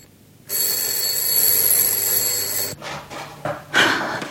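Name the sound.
doorbell ringing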